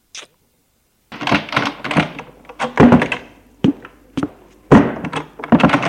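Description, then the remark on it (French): A door is handled: a quick tap, then a run of wooden thunks, clicks and knocks as a woman opens it to leave the room and it swings shut, with no voices. “Avant d'ouvrir la porte, elle lui envoie un baiser.”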